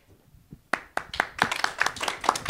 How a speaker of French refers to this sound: On applaudit les collèges Mermoz.